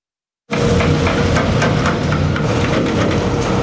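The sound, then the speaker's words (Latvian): After a brief silence, a loud, steady rumble of heavy truck engines sets in, with repeated metallic clanks and rattles as the trucks cross the metal plates of a temporary bridge in Salacgrīva, Vidzeme. “Smagajiem auto šķērsojot pagaidu tiltu grabus tēsošās metāla plāksnes.”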